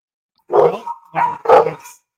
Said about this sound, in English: Dogs are going crazy. They're pissed at Tampa for losing.